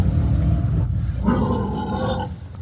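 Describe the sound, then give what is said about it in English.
A loud pig on private property lets out a harsh, rumbling grunt that rises into a strained, squealing cry midway through, with no voices around it. “That's a pig.”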